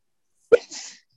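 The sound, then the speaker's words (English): A single sharp sneeze bursts out, a quick voiced "ah" snapping into a breathy hiss that trails off within half a second, with silence before and after. “Bless you.”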